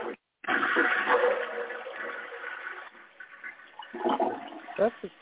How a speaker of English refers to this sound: That's a shitter. No, it is a water feature. That is how the water falls. I think it's a toilet, but okay.